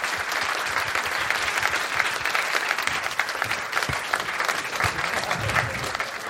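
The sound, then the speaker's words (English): Sustained applause from an audience as comedian Dion Cole is brought up on stage, a dense, steady wash of many hands clapping at an even loudness for several seconds, with no voices standing out. “Clap it up right now for Dion Cole, you guys.”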